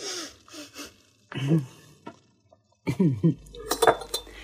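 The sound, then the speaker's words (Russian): Glasses clink together a few times near the end in quick bright taps during a toast with a shot of whisky, following short bursts of voices speaking. “Внизу его уже ждала миссис Холл, которая поставила перед ним обещанную стопку виски.”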